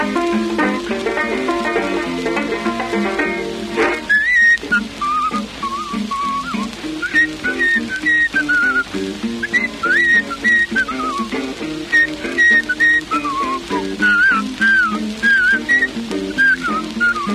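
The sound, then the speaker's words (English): A person whistles a lively, bouncing ragtime melody in clear tones over steady banjo accompaniment, the whistled line entering a few seconds in and continuing in quick phrases to the end. “I said, I'll play it if you whistle it. He said, well, I'll whistle.”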